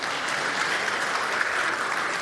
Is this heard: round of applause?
yes